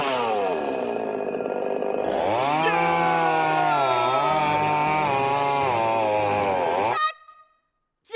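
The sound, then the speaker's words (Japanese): A chainsaw roars loudly and continuously for about seven seconds, its engine pitch revving up and wavering, then cuts off abruptly into near silence; a chainsaw used for a killing scene while shooting a horror film. “ダメ、せっかくチェーンソーでぶっ殺すんだからさ、もっと弾けないと。”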